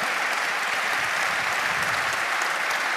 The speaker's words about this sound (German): Und bitte mal einen Applaus für alle ehrenamtlichen Helfer heute Abend. Weil das ist großartig.